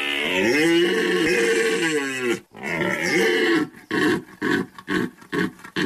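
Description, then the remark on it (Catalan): A red deer stag bellows during the autumn rut in the Pyrenees: two long, deep, loud roars, then a run of short rhythmic grunting bellows, clear with no talking. “La brama del cérvol és l'estrena que cada any dona la benvinguda a la tardor al Pirineu”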